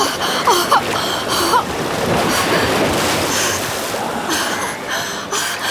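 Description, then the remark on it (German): Water rushes and churns in a steady, fairly loud wash of noise lasting several seconds as a pond's surface parts and a hunter's head rises up out of it, with faint tonal sounds drifting in and out behind it. “So teilte sich der Wasserspiegel und der Kopf des Jägers stieg in die Höhe.”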